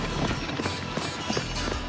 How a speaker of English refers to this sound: That really is a one-horse open sleigh.